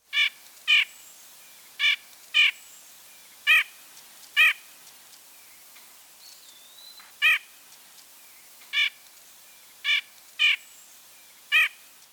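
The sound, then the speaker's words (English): A bird's short, harsh call note repeats about eleven times at slightly uneven intervals, each one sharp and clear against a quiet background with no talking. “Now listen to both vocalizations again. First the call.”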